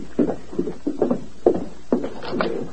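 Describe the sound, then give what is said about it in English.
A horse's hooves clop as it approaches, in a steady, uneven rhythm of about eight or nine dull thuds over a few seconds, at moderate loudness with a faint hiss underneath and no voices. “Somebody coming.”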